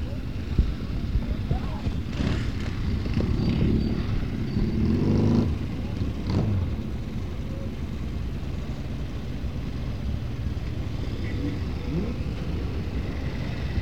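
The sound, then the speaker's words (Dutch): A Triumph motorcycle, an English make, rumbles past with a steady low engine drone and some wind buffeting, while a passenger riding on the back plays a bagpipe faintly on top, the whole sound staying loud throughout. “Dus dit is iemand achterop een motor met een doedelzak.”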